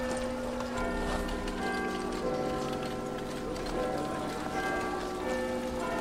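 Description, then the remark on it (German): Horse-drawn wagons, horse omnibuses and cabs clip-clop through a bustling big-city street before the era of cars, with many pedestrians; hooves clatter continuously amid a dense wash of traffic noise and a faint ringing bell. “Viele Pferdefuhrwerke, Pferdeomnibusse und Droschken waren unterwegs.”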